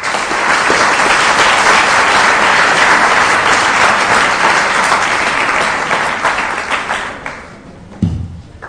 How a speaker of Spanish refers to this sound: para quien solicite un aplauso caluroso de bienvenida.